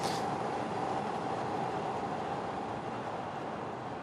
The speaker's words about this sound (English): And a train. And a train. And a metro as well.